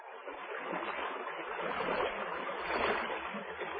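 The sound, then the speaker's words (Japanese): The wooden boat Senkinmaru moving through water on the last leg of its voyage: a steady, continuous rush and swash of water along the hull, moderately loud, with no voices. “さて、船は最後の航路を走り出している。”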